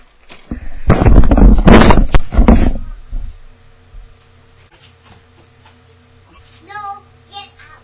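Muffled children, two of them, yell loudly under a door for a couple of seconds, then fall quiet over a low steady hum before one brief high-pitched call near the end.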